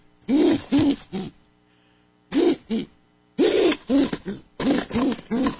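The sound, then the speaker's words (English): An unhappy female pigeon, recorded with a microphone placed down by her, gives a series of low, throaty coos in short bursts, grouped in pairs and triplets with brief pauses between, fairly loud with no talking. “That's a pigeon. That's a pigeon. That was not a happy sound.”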